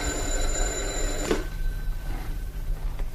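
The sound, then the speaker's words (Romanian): A telephone bell rings loudly and close by for just over a second, then cuts off abruptly, leaving only a low background hum. No one speaks. “Telefonul. Trebuie să fie tot pentru Mișa. Numai pentru el suna în ultimul timp.”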